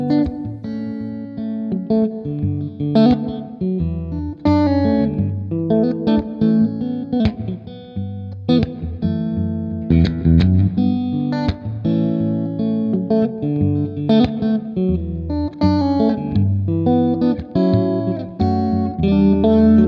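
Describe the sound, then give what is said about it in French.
An electric guitar is picked fingerstyle, with bass notes and chords ringing together in a steady, flowing pattern, fairly loud, washed in effects and reverb, with no talking. “Donc ça vraiment c'est super parce que ça permet de jouer des choses beaucoup plus fingerstyle comme moi j'aime bien faire. Hein. J'ai déjà joué un peu tout à l'heure mais je vais rejouer.”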